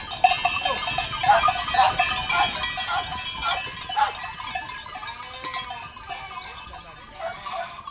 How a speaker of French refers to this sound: À l'intérieur, c'est un vrai concert. Comme elles font « bé », on dit qu'elles bêlent, comme les chèvres.